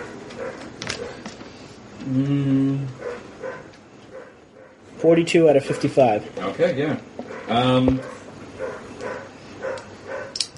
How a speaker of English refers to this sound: That dog is annoying. Yeah, he is.